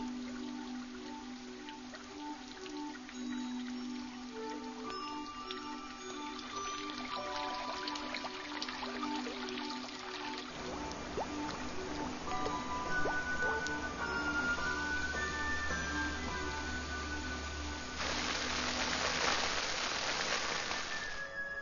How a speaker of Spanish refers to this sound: Durante semanas, las temperaturas apenas suben del punto de congelación. Pero finalmente, el poder del sol no puede ser contenido y las montañas liberan su carga de agua.